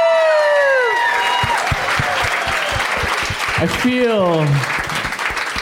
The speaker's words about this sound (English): They just applauded for you.